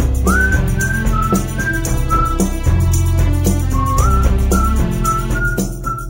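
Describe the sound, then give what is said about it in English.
A bright whistled melody glides over a full band, its sustained notes doubled into a slightly thickened, layered tone that stays prominent and steady throughout. “this whistling part that kind of sort of the same melody line, but a little different, also double tracked.”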